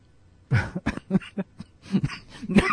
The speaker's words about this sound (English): because if I laugh, I start to cough. If I laugh, it makes me cough. But I haven't really coughed the whole show except for when I've laughed.